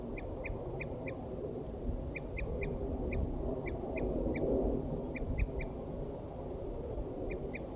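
Wild birds, mostly males, call while attacking, repeatedly in quick clusters of two or three short, high, clipped notes, rising steadily above a constant low rumbling background with no talking.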